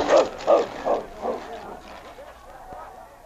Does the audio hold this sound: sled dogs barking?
yes